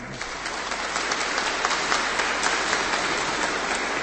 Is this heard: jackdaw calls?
no